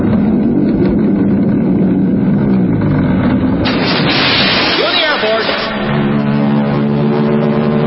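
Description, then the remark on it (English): A steady, loud roar of Royal Canadian Air Force aircraft engines droning overhead as the planes tow a 10-ton maraschino cherry, swelling midway with a brighter, higher whine before settling back into a deep, sustained rumble. “Then the Royal Canadian Air Force will fly overhead towing a 10-ton maraschino cherry, which will be dropped into the whipped cream to the cheering of 25,000 extras.”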